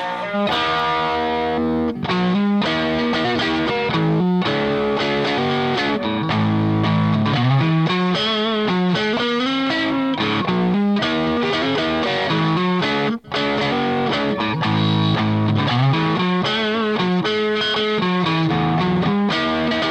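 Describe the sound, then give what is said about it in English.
A distorted electric guitar plays loud, continuous chords and riffs with a thick, saturated tone, sustaining throughout with only brief pauses between phrases. “Okay, here's the distortion.”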